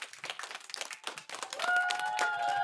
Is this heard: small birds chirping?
no